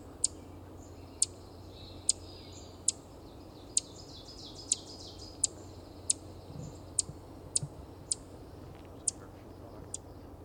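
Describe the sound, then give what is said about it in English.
An ovenbird on a branch beside a trail sounds off close by with a steady series of sharp, high notes, roughly a dozen evenly spaced across ten seconds, standing out over a low outdoor rumble. “So the oven bird has come closer.”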